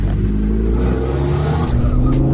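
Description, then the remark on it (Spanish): A Lamborghini sports car engine, started with a push button under a flip-up cover, rumbles loudly, its deep growl steady at first before the revs shift and climb toward the end, with no voices over it. “Amigo, es impresionante la potencia que tiene este auto y el ruido que hace.”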